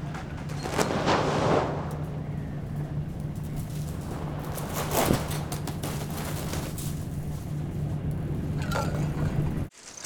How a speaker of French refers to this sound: Est-ce que je peux vous demander qu'est-ce que vous entendez? Là? Ouais. Une mouette. La mer? Un bateau? Oui, le bruit d'un bateau.